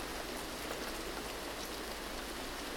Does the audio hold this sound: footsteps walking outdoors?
no